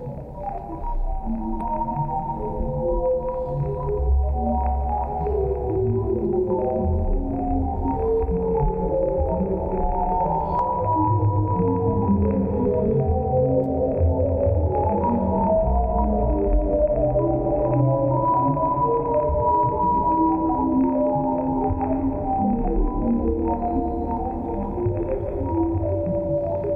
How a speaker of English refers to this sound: Now here's Hubble Telescope sound from space.